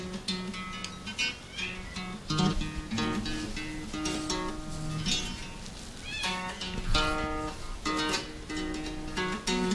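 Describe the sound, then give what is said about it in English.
Cat meows arranged into an instrumental cat song, a dense, continuous musical stream, overlapping and repeating loudly for the whole stretch with no one talking. “This is an instrumental cat.”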